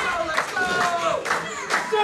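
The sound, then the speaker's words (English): A split wrestling crowd at the Spire claps and reacts with a steady, dense wash of applause and cheering, swelling in several loud bursts as both wrestlers are down and the count starts, while voices talk over it throughout. “We're hearing a rather split crowd, but they are loving the action here at the Spire.”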